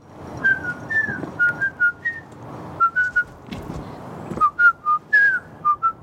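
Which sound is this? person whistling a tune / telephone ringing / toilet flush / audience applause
person whistling a tune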